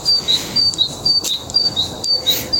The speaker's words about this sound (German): Das singen die Vögel. Ist das nicht schön?